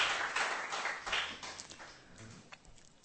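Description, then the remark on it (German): A church audience applauds the worship team, a dense patter of many hands clapping together at a soft level, gradually thinning and fading out over a few seconds, with no voices. “Lass uns nochmal unser Lobpreisteam, unsere Wertschätzung zeigen, aber einen Applaus geben.”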